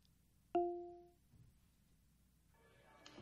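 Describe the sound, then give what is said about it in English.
A small call bell, hardly bigger than a hand, on a check-in desk is struck once, giving a bright, ringing ding that fades over about half a second, followed by quiet rustling noise. “She saw a newspaper next to a call bell.”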